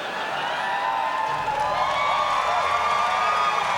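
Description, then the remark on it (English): Steady, dense crowd applause holds at an even level for a few seconds, with scattered cheers and whoops rising above the clapping. “Hey now, don't applaud too loud.”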